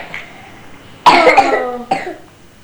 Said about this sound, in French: Oui, il tousse quand même.